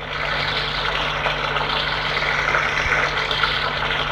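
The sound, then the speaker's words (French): A steady, continuous rush of shower water as a man showers, with an even hiss and a faint low hum beneath it, unbroken throughout. “Il se douche.”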